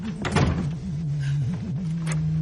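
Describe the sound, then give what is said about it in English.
The front door of an apartment thuds shut, followed a moment later by a short latch-like click as it is locked, with a low wavering hum running steadily underneath. “Billy shuts and locks it.”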